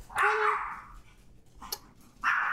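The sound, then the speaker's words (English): A dog barks because a visitor is over at the house, one drawn-out bark followed by a short yap and another bark cut off at the end, with no voices over it. “It's the only reason she'd be barking right now.”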